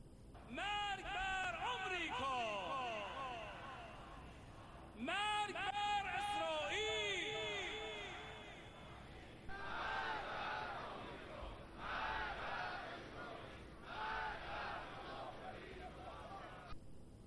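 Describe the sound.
A large crowd of protesters at a rally in Iran, denouncing the riots, chants loudly in unison, many voices rising and falling together in long drawn-out cries, then settling into shorter repeated phrases with brief pauses between them.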